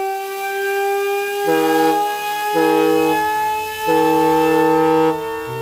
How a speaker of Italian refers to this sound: Questo che sentite è il rumore emesso da una sirena. Per la precisione, una sirena di Cagnard de la Tour, un piccolo apparecchio di latta, ferro e vetro, inventato nel 1819 per misurare le frequenze del suono.